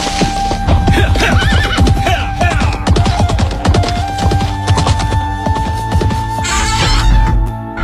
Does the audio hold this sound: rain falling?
no